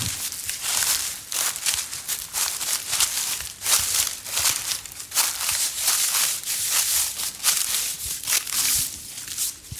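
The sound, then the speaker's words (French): Footsteps crunch steadily through a thick layer of dry plane tree leaves, each step a loud crackle of crumpling leaves in a regular walking rhythm, with no one talking. “Et donc, on va repasser sur ce tapis de feuilles mortes. Ouais, de platane, magnifique.”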